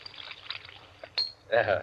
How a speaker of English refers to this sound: And now, a little soda in mine.